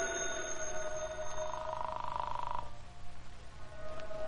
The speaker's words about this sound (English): Well, telephone. Let it ring. Officially, I'm not at home. The phone in Britt Reed's apartment rang repeatedly.